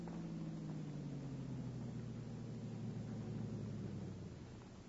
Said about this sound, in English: Car coming.